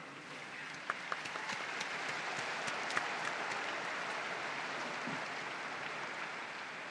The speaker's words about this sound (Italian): Un applauso ai nuovi beati.